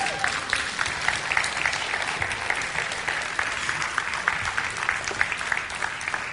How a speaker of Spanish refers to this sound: Un aplauso